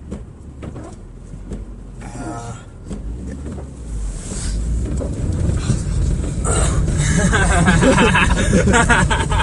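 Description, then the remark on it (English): Steady low rumble of a car interior driving through a roundabout, road and engine noise swelling louder as it goes, with scattered clicks and faint muffled voices underneath. “We're out of a different position because this guy is like in the middle of the roundabout. Oh, I'm stuck.”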